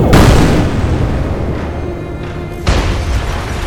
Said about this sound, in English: Its arm slowly turns around to face another sentinel, the arm cannon releasing its charge and destroying its fellow unit.